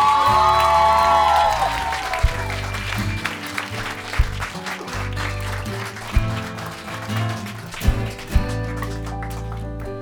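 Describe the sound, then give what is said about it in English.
An audience claps steadily in a dense, crackling wash, with cheers and whoops rising at the start and scattered louder claps throughout, over a low sustained musical hum. “So ladies and gentlemen, please give a huge round of applause.”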